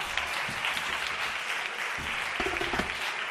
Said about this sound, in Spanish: Y mira qué mona estoy yo ahí. Me perdona. Un aplauso para esa foto.